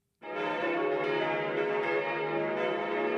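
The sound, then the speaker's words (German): Twelve bronze bells of the Catholic church Christkönig in Waldkraiburg, Upper Bavaria, peal together for mass at Pentecost. They make a dense, continuous wash of ringing tones, loud and sustained after a sudden start, with overlapping strikes blending into a rich metallic drone. “12 Bronzeglocken der katholischen Kirche Christkönig läuten zur Messe.”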